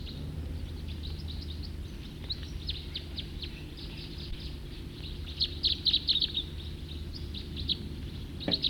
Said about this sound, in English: Probably the same bird. Call notes of the songster.